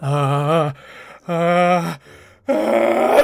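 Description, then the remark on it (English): A voice acts out the big sneeze of a Sniff, a creature named for sniffing and sneezing: two drawn-out, strained "ah" build-ups with breathy intakes between them, then a loud, noisy "choo" burst at the end. “A big sneeze.”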